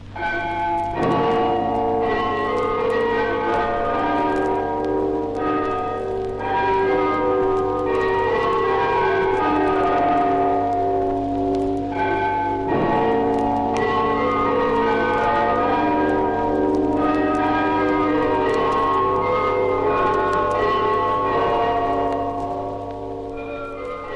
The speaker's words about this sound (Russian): запись, которую вы сейчас услышите, уникальная. Москва, 1926 год. Звучат куранты Спасской башни.